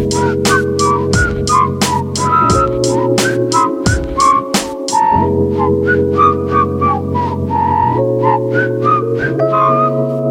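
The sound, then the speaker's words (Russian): A loud whistled melody weaves over a steady instrumental backing of sustained low tones and regular percussive hits. There is no talking. “Так что надеюсь, что следующие выхи пройдут в сопровождении художественного свиста.”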